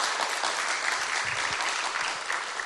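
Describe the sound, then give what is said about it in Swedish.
A church audience claps together after worship singing in steady, dense applause, a continuous wash of many hands that stays fairly even in loudness throughout, with no voices standing out. “Ja, ska vi bara applådera dessa underbara.”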